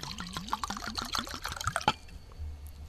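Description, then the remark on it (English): Lago Marsino Estate 2013 Cabernet Sauvignon from a single-vineyard estate in the Russian River Valley glugs steadily into a glass for about two seconds, a rising gurgle with a rapid rhythmic bubbling, fairly loud, ending abruptly before quiet room tone. “Yes, that was a long pour.”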